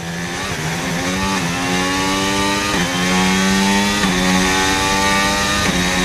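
A loud car engine revs hard and accelerates, steady and continuous with no voices. Its pitch climbs and drops back again and again as it shifts through gears.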